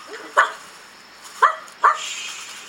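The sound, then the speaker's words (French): A dog barks three times: one sharp bark, a pause of about a second, then two more in quick succession, over a faint steady background hiss. “Ce chien m'en fait qu'à sa tête.”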